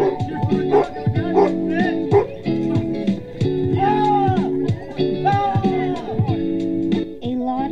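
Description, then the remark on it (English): Several dogs at Fido Fest bark and bay loudly in a baying contest, their drawn-out howling cries overlapping with short sharp barks in a continuous, chaotic chorus. “Dogs were present at Fido Fest with their baying contest held to see who is the largest, the smallest, or the best at tricks.”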